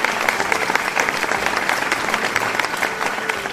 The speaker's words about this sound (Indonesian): Wah, kalian memang anak cerdas. Berikan tepuk tangan untuk anak cerdas.